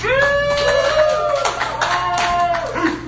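A burst of studio audience applause on the Pirate Show as the Brunswick High Pirates head coach is introduced, steady and fairly loud for a few seconds, mixed with sustained musical tones from a short jingle or theme playing over it.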